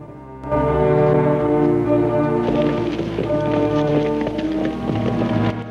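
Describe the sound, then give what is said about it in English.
A chestnut horse's hooves canter along a street past a blacksmith's in a steady, rapid clip-clop, partly masked by loud, sustained music; the hoofbeats grow more distinct in the second half. “Ben canters away on his chestnut horse past a blacksmith's, and Neil and the other heavy follow him.”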